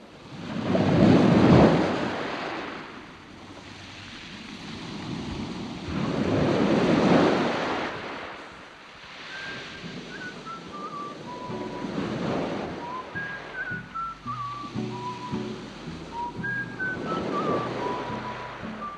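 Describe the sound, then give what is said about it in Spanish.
Ocean waves surge and break against the shore of the Atlantic coast, among dunes, in slow, rolling swells, with steady wind blowing across the coast and faint high chirping calls drifting in during the second half. “Ese hermoso lugar de la costa atlántica queda allá lejos, dunas y océano.”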